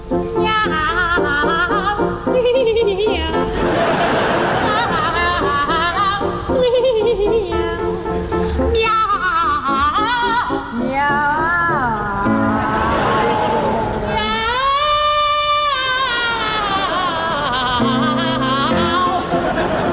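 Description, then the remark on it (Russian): Two operatic sopranos, Ann Murray and Felicity Lott, sing Rossini's comic cat duet, their high voices trading sliding, meowing phrases over a steady piano accompaniment, loud and continuous throughout. “Видимо, однажды, мартовской ночью, кошачий концерт не давал уснуть Джакомо Россини, и он сочинил знаменитый кошачий дуэт. Слушаем его в блистательном исполнении двух прославленных сопрано – Энн Мюррей и Фелисити Лот.”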